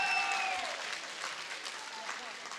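A crowd applauds steadily, a dense, even wash of clapping that holds at one level throughout, with a brief tonal shout or whistle rising over it in the first half-second.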